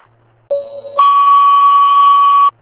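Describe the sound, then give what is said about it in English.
A fire dispatch alert tone for Dairy Fire and Auburn Fire, sending an engine on mutual aid to cover Hampstead Station: a half-second steady lower beep, then a longer, higher sustained tone for about a second and a half, loud and electronic, with no voices. “Sound of the tone, 102.”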